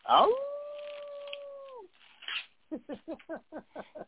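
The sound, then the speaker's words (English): A person lets out a long, steady wolf-like howl lasting over a second, imitating a wolf, followed by a quick series of short rhythmic vocal bursts. “He might be. Yeah, he might be. Over there howling.”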